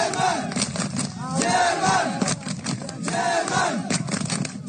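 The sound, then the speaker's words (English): A large crowd of thousands of migrants, mostly from Africa and the Middle East, chants in unison outdoors at the barbed wire border fence between Belarus and Poland, loud rhythmic collective shouting rising and falling in waves, dense and continuous, with many voices blending together. “On one side of that barbed wire is Belarus and thousands of migrants, mostly from Africa and the Middle East, chanting together their German.”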